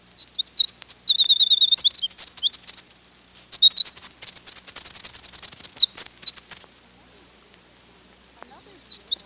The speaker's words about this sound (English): Although most bird species start singing in late winter and frequently sing during migration, winter wrens apparently don't consider Chicago or Minneapolis worthy settings for their song.